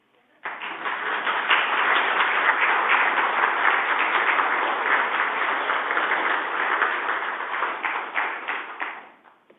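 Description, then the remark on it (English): A crowd breaks into sustained applause, many hands clapping in a dense, steady wash that holds strong for several seconds before tapering off. “I got a feeling they want to applaud.”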